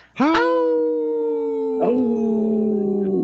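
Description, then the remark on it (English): Voices imitate wolves in a sustained, loud howl on the Native Roots Radio show, hosts and guests joining together in long, wavering tones that hold steady, then a second voice swells in partway through without pause. “It's great when the guests join in and howl with us right away.”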